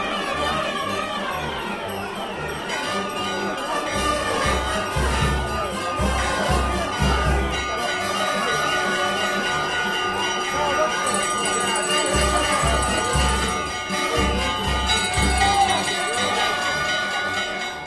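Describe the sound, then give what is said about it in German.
A small bell rings out now and then in a religious procession, signalling some 30 bearers when to set down and pick up the carried platform, over a loud, busy outdoor crowd with cheering, clapping, children shouting and general bustle; voices chatter throughout. “Ein Glöckchen gibt ihnen Zeichen, wann sie den Tragen absetzen müssen, wann wieder aufnehmen, zum Weitermarschieren.”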